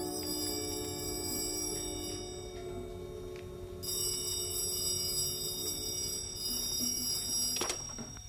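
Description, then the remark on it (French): A telephone in a private detective's office rings in two long, shrill bursts separated by a short pause, a bright metallic jangle over a steady low hum, with no one speaking. “Approuve le coup de téléphone que je reçus à mon retour à mon bureau.”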